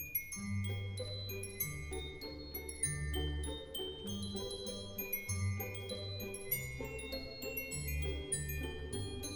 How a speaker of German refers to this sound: Komm, du schönes Glockenspiel, lass die Glöckchen klingen, klingen, dass die Ohren ihnen singen.